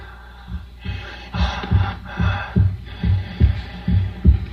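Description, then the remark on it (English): A muffled heartbeat heard through a stethoscope, the heartbeat of Frankenstein's creature in the radio drama Suspense: steady, deep lub-dub thumps about once a second, fairly loud, with a soft breathy rushing swelling behind them. No one speaks. “It's breathing. Victor, what have you done? The thing's alive.”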